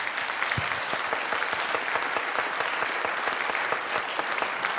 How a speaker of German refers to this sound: Okay, dann möchte ich noch einmal einen ganz lauten, großen Applaus bitte haben